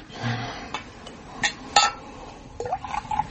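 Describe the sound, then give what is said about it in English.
Glass clinks twice, bottle against glass, then liquid pours into a glass with a brief rising gurgle. Fairly quiet, with no voices. “Pour us another drink.”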